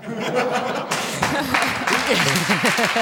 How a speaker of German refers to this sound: Da klatschen lauter Männer.